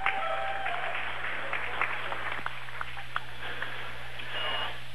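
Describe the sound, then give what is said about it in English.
A short electronic beep, picked up by a microphone set too high, sounds at the very start, then fades under a constant roar of crowd noise and scattered clapping at a team game after the lineups are announced. “Sorry about the beep.”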